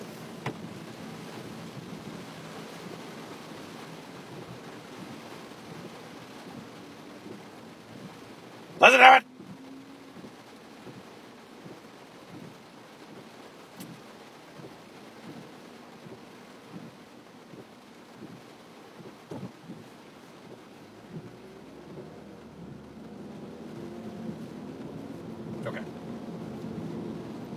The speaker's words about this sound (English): Listen to this rain. Listen to it.